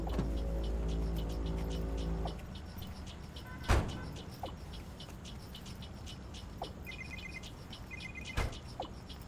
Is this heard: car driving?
yes